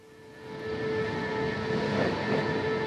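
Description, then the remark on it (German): A train from Zürich to Bern departs on time from platform 17 at 6:32 in the morning, its steady electric whine and low rumble swelling after a quiet start, then holding at a constant level with no voices. “Der Zug von Zürich auf Bern fährt pünktlich ab.”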